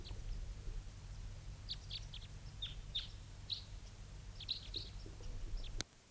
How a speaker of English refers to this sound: both birds calling there.